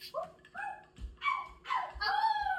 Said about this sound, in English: Woof, woof, woof. I think that's a yes. That means yes.